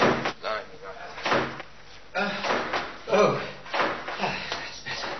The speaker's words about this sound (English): Mind the revolving door.